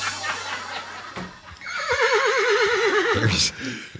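A horse neighing sound effect: a horse whinnies loudly, a long wavering neigh that trembles up and down for about two seconds before ending in a sharp snort, with no one speaking.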